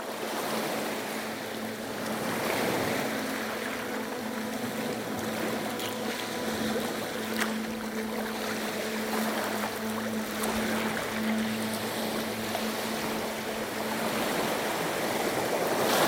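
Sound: ocean waves washing ashore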